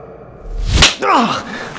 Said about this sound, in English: Someone slapped Kyler, not gently.